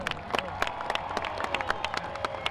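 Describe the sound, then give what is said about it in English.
A crowd at a jet-powered drag racing event applauds and cheers steadily as jet car racer Jill Canuso is introduced. Dense, irregular hand claps sound over a continuous wash of crowd noise at a fairly even, moderate level throughout, with no clear speech. “make some noise for Jill Canuso.”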